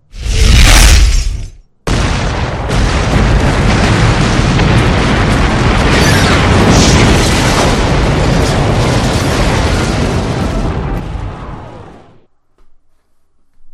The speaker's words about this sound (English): the explosion caused by the impact of the missile